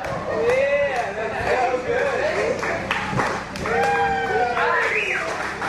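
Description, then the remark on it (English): A loud crowd erupts in applause as a tall stack of crates crashes down after the 17th crate is placed, with scattered clapping mixed into rising shouts and cheers from many voices, sustained for the whole stretch. “And then, of course, everybody gives applause when it goes down because it's so exciting, man.”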